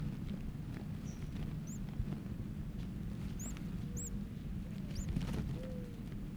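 A bird chick with its mouth open and head up gives a handful of thin, high, rising peeps, begging calls spaced irregularly while it wriggles on paper, over a steady low rumble of background noise, with no voices.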